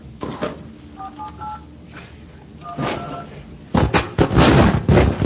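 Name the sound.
telephone keypad dialing tones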